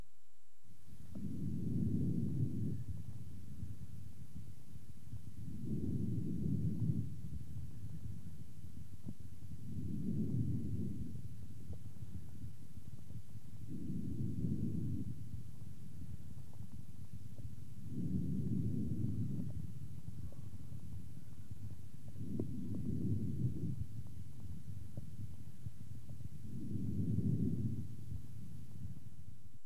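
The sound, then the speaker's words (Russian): Laryngotracheal breathing heard through a stethoscope: about seven steady, evenly spaced breath cycles, each a coarse, rushing low noise over a muffled background, with no talking. “Таким образом, ларинготрахеальное дыхание представляет собой более грубый по тембру и высокочастотный шум, причем продолжительность выдоха превышает длину вдоха.”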